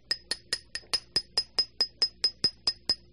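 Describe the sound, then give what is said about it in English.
A hammer taps a 20-penny metal spike being driven into a person's head through the nose, about fourteen times in a steady, quick rhythm, each strike a bright metallic clink with a short ring. No one speaks. “Here's a 20-penny spike, 50-cent hammer, and a no-sense head. I'm going to drive a spike in my head.”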